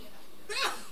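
A single short sneeze bursts out after a brief quiet pause. It is a quick, breathy burst against faint background noise, with no talking.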